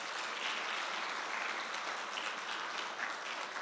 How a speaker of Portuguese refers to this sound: Aplauda a Deus aí pelo seu Brasil.